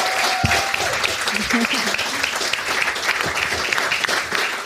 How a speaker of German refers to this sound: Dann vielen lieben Dank und einen Applaus für Antenne Retterstützer.